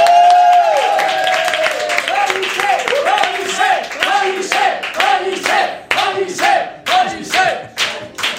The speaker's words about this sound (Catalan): Així que rebem amb un fort aplaudiment a Ramon Pellicer.